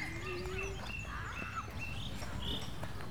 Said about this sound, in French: Là, j'entends beaucoup de choses, beaucoup de vent. J'entends en fait des oiseaux et il y a plein de gens qui crient, qui parlent